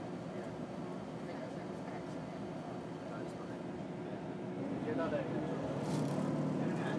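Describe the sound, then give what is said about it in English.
A diesel train pulls away from a station heading towards London, its low engine rumble steady at first and then swelling louder as it gathers speed, heard from aboard the train, with faint background voices. “And we're off.”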